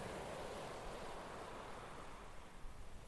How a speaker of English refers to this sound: These waves were recorded at Deal, in the sunshine, on May the 13th, 2021.